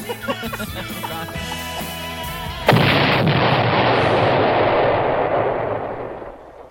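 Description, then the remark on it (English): A few seconds of music end abruptly in one loud explosion sound effect, its roaring, rumbling blast sustaining for several seconds before fading away. “Where's my explosion?”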